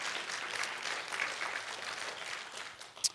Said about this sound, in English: Yeah, you can clap for that too.